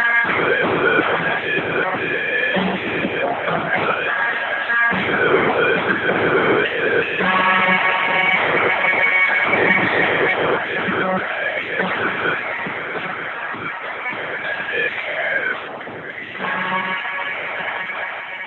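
The closing section of a 1966 rock song plays, with its ending played backwards: the vocals run backwards as garbled, wordless singing over dense, muffled band instruments at a steady, fairly loud level, dipping briefly near the end.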